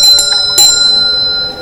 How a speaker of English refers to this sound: Well, that's a bell, isn't it? It's not a phone. But it's ringing.